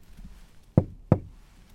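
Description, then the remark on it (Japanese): Two firm knocks on the wooden front door of apartment 111, made by a delivery worker because the doorbell was broken, evenly spaced about a third of a second apart, fairly loud against a quiet background with no talking. “仕方なく玄関のドアをノックした。”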